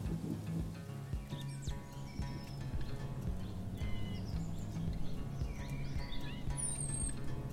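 Scattered bird chirps and short whistled calls sound over a steady low rumble of outdoor background noise, with a brighter, sharper call near the end.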